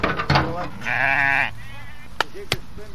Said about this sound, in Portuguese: Tudo pronto, é hora de abrir a cancela às ovelhas.